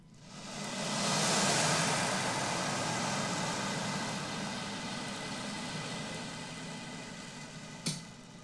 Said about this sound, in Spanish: ¿Y qué otros sonidos tenés para mostrarnos? El del mar.